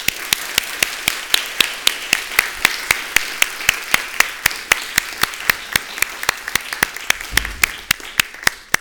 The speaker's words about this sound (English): Let's give our newest members a round of applause.